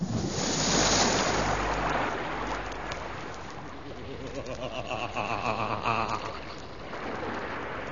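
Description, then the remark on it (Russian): Sea waves surge and wash continuously, a broad roaring hiss that swells loudest early on, with faint wind and a low rumble underneath and no voices. “нас в бочку засмолили и бросили в синее море.”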